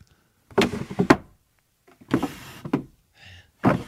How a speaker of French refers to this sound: Il ouvre un tiroir.